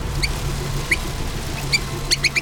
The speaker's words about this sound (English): Suddenly, Onamuji heard a small squeaking sound. He looked down and was surprised to find a tiny mouse standing at his feet. It scurried around in circles, stopping occasionally to look up at him while squeaking incessantly.